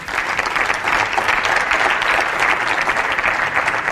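Sustained audience applause for the CEO of Natural Machines, a dense steady patter of many hands clapping at an even loudness throughout, with no voices standing out above it.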